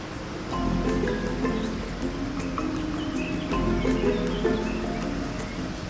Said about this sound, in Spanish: Seguimos al pie de la letra las indicaciones del mapa y descubrimos el tesoro verde. Se trataba de un hermoso arroyo.